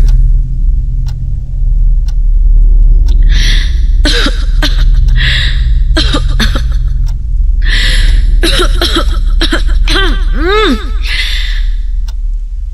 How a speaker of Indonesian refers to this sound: Berkali-kali aku batuk hingga entah kenapa tubuhku ini kini mulai terasa gatal dan badanku panas.